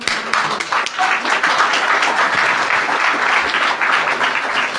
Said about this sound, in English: And so, particularly as it's the 10th, I'd like to give you all to give him a big round of applause for getting this far.